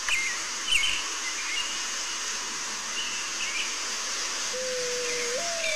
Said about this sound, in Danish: Men det der lydklip, du spiller det lige, det er seriøst. Jeg ved ikke, om det er det samme fuglesang på dig, men sådan, det der, det er sådan den der duagtige. Ja, det er lidt duagtigt. Ja, den elsker jeg.